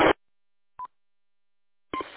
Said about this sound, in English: I keep hearing, I think it's your radio. Is your radio making some sort of a beep, or is that the repeater?